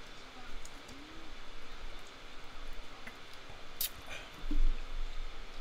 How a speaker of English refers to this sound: Let's get a sip of water here before we continue.